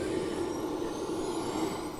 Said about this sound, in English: As we hear a Chinook fire up its engines, I guess that's what they heard when some of these were leaving that night.